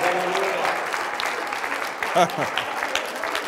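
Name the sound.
audience applauding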